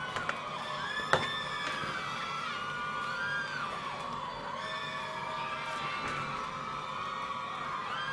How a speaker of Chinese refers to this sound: 谢谢欢呼。